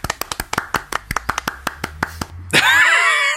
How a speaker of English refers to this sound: we need to find some round of applause effects somewhere in Logic, because that just wasn't impressive.